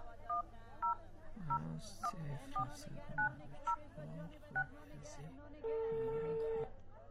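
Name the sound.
telephone number being dialed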